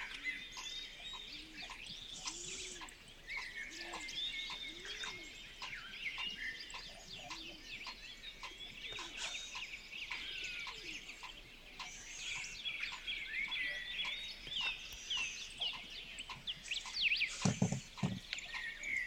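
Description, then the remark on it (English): Many birds sing and chirp together outdoors, heard through an opened door, a dense, steady chorus of bright trills and tweets, continuing throughout with a brief louder burst near the end. “All right, I opened my door. Can you hear these fucking birds?”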